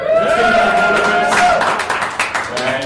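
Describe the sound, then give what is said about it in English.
A crowd at a company awards announcement breaks into loud applause, dense clapping mixed with whoops and cheering voices, the cheers rising first and then giving way to a steady wash of hand claps. “We'll pause for the ones that get a lot of applause.”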